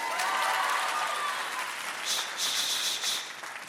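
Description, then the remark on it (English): A crowd claps together on request in a dense, steady burst of applause lasting a few seconds, bright and noisy, fairly loud throughout, with no voices over it. “Now you clap.”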